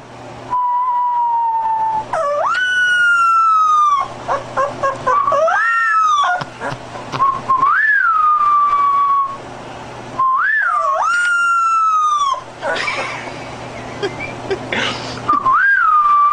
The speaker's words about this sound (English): The puppy, just he doesn't know how to howl yet, so he makes this noise. This is the owner trying to get him to howl.